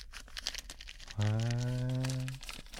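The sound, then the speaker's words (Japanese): A vinyl plastic sheet, held close to the microphone in a studio, crinkles in scattered sharp crackles and rustles, while a sustained low voiced hum from someone rises over it for about a second in the middle. “ビニール？ そう、ビニール。”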